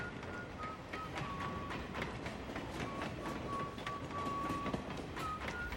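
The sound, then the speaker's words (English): A train rolls past during a film shoot in the middle of the night or early morning, a steady loud rumble with rhythmic clacking of wheels on track and a thin metallic wheel squeal running through it. “And that train that went by was kind of a happy accident.”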